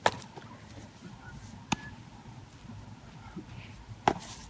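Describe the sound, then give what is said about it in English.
A baseball being hit: three sharp, bright cracks of bat on ball at uneven intervals, each one loud and brief against a low, steady background hum. “The ball, that sound.”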